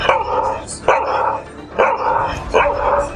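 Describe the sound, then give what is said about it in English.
A man imitates barking dogs with four loud, rhythmic vocal barks spaced under a second apart, each a sharp yelping burst. “is the dogs.”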